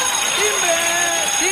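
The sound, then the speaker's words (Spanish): A school bell rings in one steady, continuous burst lasting under two seconds. A voice seems to imitate it with a sustained, buzzing ring that wavers slightly in pitch, with bright high overtones throughout. “Timbre.”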